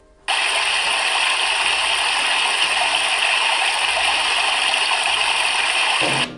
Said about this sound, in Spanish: ¡Ay, qué relajo! Ese es un río que va corriendo por su cauce, el sonido de un río.